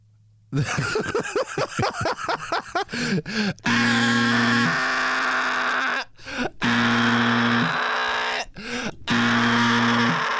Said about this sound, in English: This the worst alarm. You lost. This alarm sound like it throat hurt. This alarm sound like it need a halls.